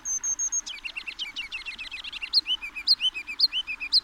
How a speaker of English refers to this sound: What was that across the street, among the trees along the creek? A kinglet's rambling silly song? Here downtown? Might I be wrong? O frabjous day, he sings again.